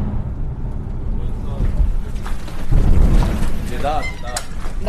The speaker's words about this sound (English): Well, within the last few moments, we've heard the sound of two explosions, and it sounds like there are still planes in the air.